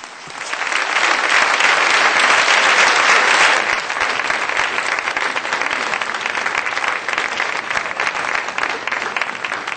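Loud, sustained audience applause for Supreme Master Ching Hai after she shared her message, a dense crackle of many hands clapping that swells in the first few seconds, then eases slightly and continues steadily to the end with no talking.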